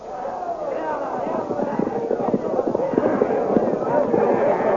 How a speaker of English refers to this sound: With shouts and confusion, the Blue Magic Army charges to attack the barricaded Hawkmen.